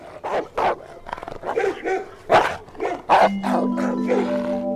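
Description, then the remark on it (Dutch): Several hunters' dogs bark in quick, overlapping bursts, loud and coming closer as they go after the fawn Bambi, while a steady tone rises underneath toward the end. “Maar dan hoort hij geblaf. Bambi blijft staan. Het geblaf komt dichterbij.”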